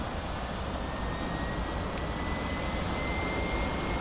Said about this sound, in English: As the whine of the helicopter turbine picks up, Cora finally lifts the headphones off.